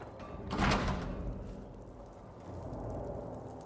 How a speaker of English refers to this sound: We're going to close that door.